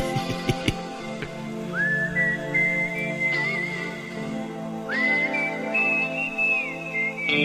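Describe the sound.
A man whistles a slow, clear melody in long, gliding notes, rising into each phrase, over a soft instrumental backing from the biggest hit recording of 1991.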